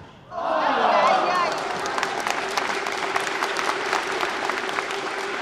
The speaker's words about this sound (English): Michael Barras prevailed in a close match, after which I asked him if he'd been aware of the way the excitement of the crowd, which numbered perhaps 400, had swelled the longer the points had gone on.